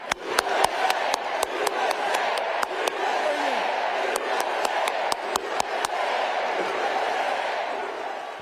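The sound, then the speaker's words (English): A large crowd at the Harris-Walz rally in Arizona roars and chants "USA, USA, USA" while Tim Walz's loud, sharp hand claps ring out in quick, rhythmic bursts above the din, pausing briefly midway before resuming. “That was Tim Walz clapping, the loudest clapper, and the crowd chanting, USA, USA, USA.”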